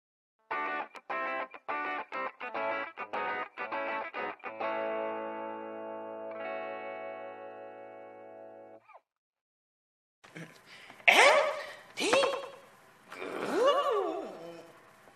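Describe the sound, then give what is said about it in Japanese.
A burst of sound repeats rapidly as an echo effect, then smears into a sustained, fading electronic tail. After a short silence, loud processed vocal sounds follow. “エコーかけとこうか。”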